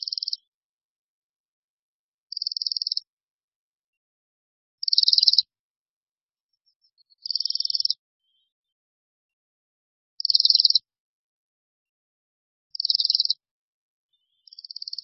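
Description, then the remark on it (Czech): Bohemian waxwing calls: high, thin, buzzy trills, each about half a second long, repeated seven times at steady intervals of roughly two seconds, clear against silence. “Jak již druhové jméno říká, Brkoslav je pták skutečně severní.”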